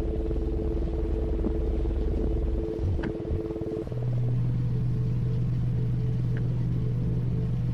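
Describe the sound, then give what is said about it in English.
A car engine idles, heard from inside the car, a steady low rumbling hum with a faintly pulsing, huffing rhythm that settles into a slightly different pitch partway through. No one speaks. “I sat in the car, breathing, and slowly I became conscious of the idle of the engine, its little huffing spurts, its calm, regular rhythm, the sound of something that works.”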